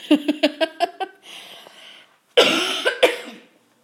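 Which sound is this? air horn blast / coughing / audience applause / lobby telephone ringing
coughing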